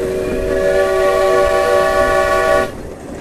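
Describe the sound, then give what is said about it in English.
A steam locomotive whistle blows loud in one sustained, chord-like blast lasting a few seconds, with boiler pressure brought down to 125 pounds, then cuts off abruptly, leaving a low rumble of background noise. “Okay, I'm going to blow the whistle again.”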